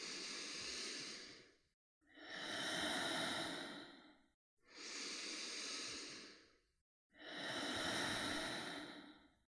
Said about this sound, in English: And letting go, exhaling. And let's begin our second round of full body breathing. Inhaling in your low belly. Exhaling. Circular breath.